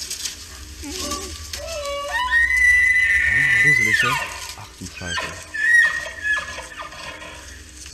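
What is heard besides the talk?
moose bellowing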